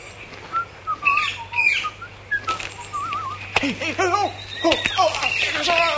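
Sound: whistling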